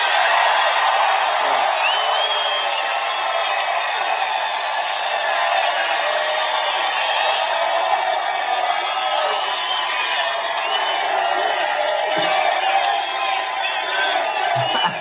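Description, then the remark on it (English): A large rally crowd roars steadily, cheering and whooping at full volume for the whole stretch, a dense wall of voices with sharp whoops and shouts rising out of it. “You're a hell of a crowd, I'll tell you.”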